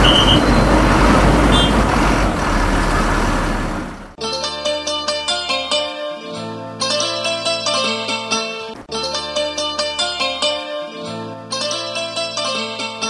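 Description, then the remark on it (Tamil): A bus to Erode rumbles in at a roadside bus stop, loud engine and traffic noise with a brief brake hiss, lasting about four seconds before music abruptly takes over. “சரிங்க, அங்கே வர ஈரோடு பஸ் ஈரோடு பஸ் வருங்க.”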